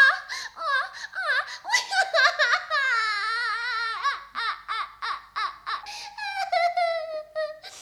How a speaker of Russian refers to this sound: Принцесса, почему вы плачете? Вам помочь? Кто вас обидел?